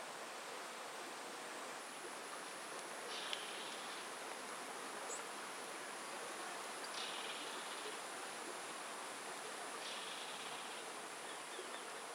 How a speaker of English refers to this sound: as the morning warms up, the insects up in the trees start buzzing, bees and flies.